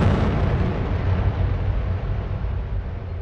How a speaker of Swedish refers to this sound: Du lyckas gräva dig ner i sanden lite grann för att skydda dig mot explosionen. Ja. Och sen hör du ju det här öronbedövande explosionen.